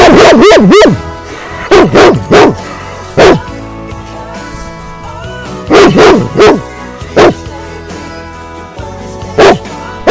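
A dog barks loudly, about a dozen sharp barks in irregular bursts: quick clusters separated by short pauses, with no talking over them.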